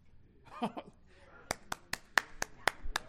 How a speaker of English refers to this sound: All right. You can all clap. It's all right, you know. So, especially when something good happens in church.